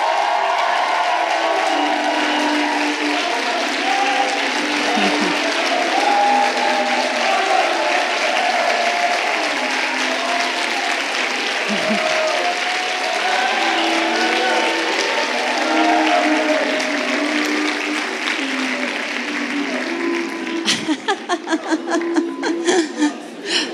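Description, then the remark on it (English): An audience at a retreat claps and cheers steadily for over twenty seconds to thank the staff, a dense, loud wash of applause with scattered whoops and laughter, ending in a few sharper, louder claps. “And I wonder if you could just take a moment and cheer for them and to say thank you for everything that they did to make this retreat great.”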